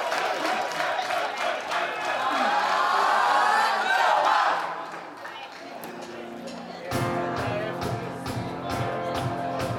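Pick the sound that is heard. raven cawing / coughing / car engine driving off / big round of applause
big round of applause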